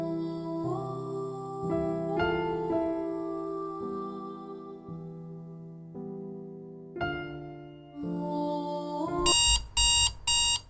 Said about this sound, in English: Yet another grim day started with the alarm clock blaring maddeningly. The day itself wasn't the issue, or even the morning alarm.